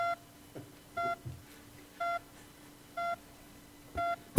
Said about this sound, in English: you hear that in the audience? It's pinging.